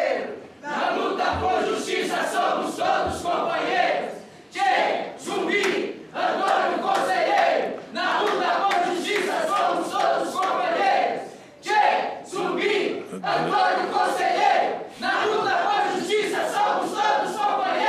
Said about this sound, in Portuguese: Acho que muito bonito essa chamada de vocês aí, esse grito de guerra, eu diria. O grito de paz, né? Grito de paz.